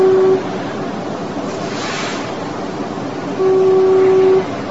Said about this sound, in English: And I have to ask you, what's more fun than foghorns?